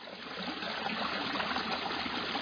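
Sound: flowing river water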